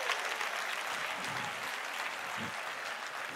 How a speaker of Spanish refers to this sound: Si ese es el aplauso, dáselo mejor a tu papá.